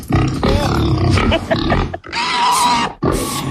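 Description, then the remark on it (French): Loud pig grunts and squealing oinks in three rapid bursts, rough and snorting, with only brief pauses between them. “Petit cochon.”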